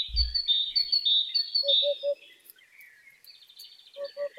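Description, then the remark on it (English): A hoopoe calls a soft, low three-note "oop-oop-oop" twice, the phrases separated by a pause, while another bird keeps up a continuous high-pitched chirping trill. No one speaks. “But we can hear the song of the hoopoe bird.”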